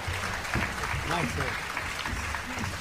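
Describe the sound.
Steady crowd applause fills the whole stretch, a dense wash of clapping with a voice briefly audible over it.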